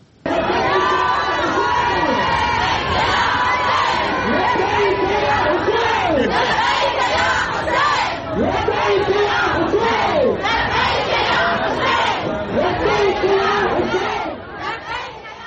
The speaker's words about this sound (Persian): اون هم در شرایطی که تازگی‌ها و در جریان گشایش بازی‌های غرب آسیا در شهر کربلا، زنان با آزادی و بدون پوشش اسلامی در ورزشگاه تازه تأسیس این شهر حاضر شدند و حتی آواز هم خوندند.